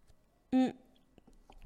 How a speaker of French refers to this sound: Alors, je bois une petite gorgée.